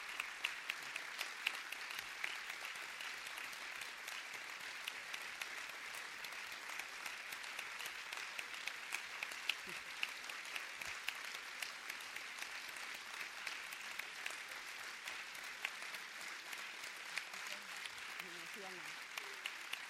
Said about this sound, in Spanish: Cuando se aplaude así, lo que le pedimos es un bis. Y ella dice que el bis es que quiere un coloquio con todos.